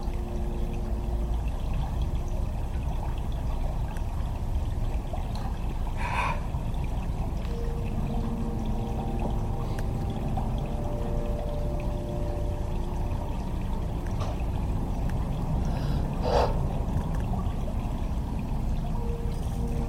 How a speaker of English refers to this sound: We find a clearing on the bank. The grass all soft beneath my hands. And we sit and watch the blue-grey river moving past us.